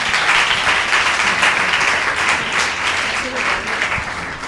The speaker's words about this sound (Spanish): Vamos a darle, chicos, un fuerte aplauso a vuestras compañeras.